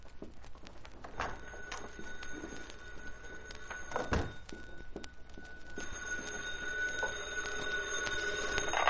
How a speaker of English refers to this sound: My phone's ringing. The other room. Go ahead. By all means, answer it.